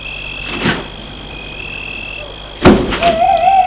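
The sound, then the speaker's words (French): A soft shuffle as a man gets into his car, then a single solid, muffled thunk of the car door shutting, followed by a low hum as he starts the car, over a steady background whine. “L'homme s'éloigne et entre dans sa voiture.”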